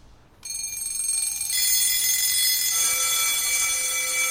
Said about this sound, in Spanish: Son 3 sonidos de despertador. Sí. El tercero es una alarma de turno de colegio.